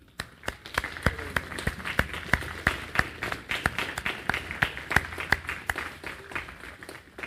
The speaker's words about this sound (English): We just want to recognize you, and we're going to give you a round of applause as an expression of our love and thanks.